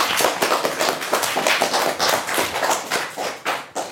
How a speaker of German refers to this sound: Applaus für uns alle.